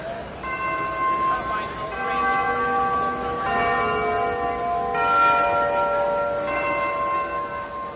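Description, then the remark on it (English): Large historic bells in the Capitoline Towers on Capitol Hill peal in overlapping strikes in a drizzle of rain on 25 March 1957, signalling that a treaty had been signed, their rich ringing tones layering and sustaining throughout, steady and fairly loud with a busy, reverberant wash beneath. “Then there was a signal from the historic bells in the Capitoline Towers.”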